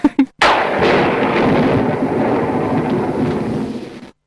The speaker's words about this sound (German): Da gibt es den typischen Donner, den habe ich sogar auch besorgt. Das ist der Castle Thunder